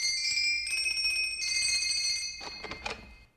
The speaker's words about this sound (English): I set the plane down. We walked over to Sandy's workshop, rang the bell.